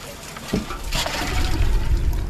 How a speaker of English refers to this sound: a group of women are using big plastic and metal buckets to get water from a big tank to irrigate the plants